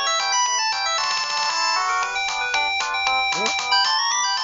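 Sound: cell phone ringtone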